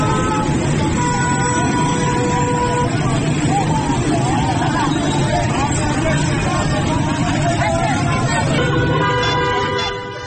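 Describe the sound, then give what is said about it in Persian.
Busy city street traffic in Iran during a power outage, with traffic lights out for hours: a steady roar of engines and overlapping car horns honking repeatedly, along with a murmur of crowd voices. “در پی قطع برق در بسیاری از شهرها، چراغ‌های راهنمایی نیز ساعت‌ها از کار افتاده و موجب به وجود آمدن ترافیک گسترده و سرگردانی شهروندان شده است.”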